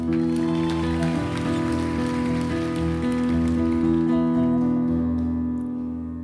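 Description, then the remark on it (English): Steady rain patters continuously over a sustained, low humming musical drone, holding a fairly even level before gently fading out at the end. No one speaks. “I was driving down US 17 around 10 a.m. on a rainy Saturday.”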